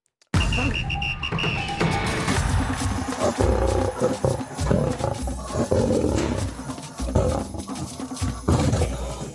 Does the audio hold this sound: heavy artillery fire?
no